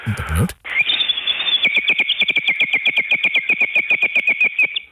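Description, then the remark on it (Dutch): A water-filled water whistle dating from 1500, once a children's toy, warbles like a bird, holding a high, steady tone broken by a fast, even trill for about four seconds after a brief burst of noise at the start. “Ja, dat is dat waterfluitje, heb ik even gevuld.”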